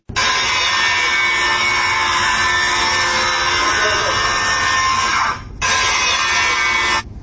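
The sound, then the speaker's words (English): A miter saw whines loudly through a steady cut lasting several seconds, drops off briefly, then bites in again for a short second pass. “Answer I was provided was a miter saw.”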